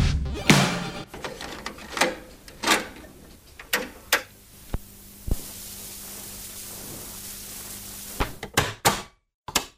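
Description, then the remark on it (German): A cassette player mechanism clunks and clicks in an irregular series of sharp mechanical knocks, with a steady hiss underneath, ending in a quick flurry of clicks. No one speaks. “Wann hast du das Geräusch zum letzten Mal gehört?”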